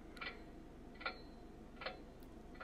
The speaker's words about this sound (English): The clock becomes audible again.